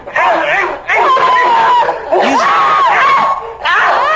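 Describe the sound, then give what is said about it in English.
A woman's piercing, high-pitched screams ring out loud, several long wavering cries in quick succession with brief breaks between them, as she is being raped. “Either that or he's much larger than the last guy, because her screams this time are piercing.”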